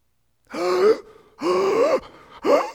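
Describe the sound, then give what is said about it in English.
Three loud, strained gasps for air in quick succession, each a rising, voiced intake of breath separated by brief pauses, with no talking. “You're just gasping for air because you can't get it.”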